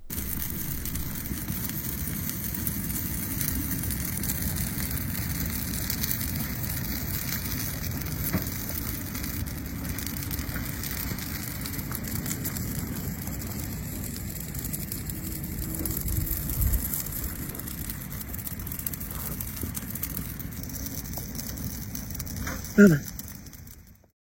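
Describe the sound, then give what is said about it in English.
A rather large bonfire outdoors in the snow crackles steadily throughout with a dense hiss of small dry pops. Near the end a person's voice calls out briefly to the dog, Aliko, followed by a sharper burst before the sound cuts off. “It's just the fire cracking and then somebody calling the dog.”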